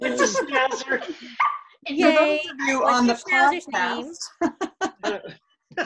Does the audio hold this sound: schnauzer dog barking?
yes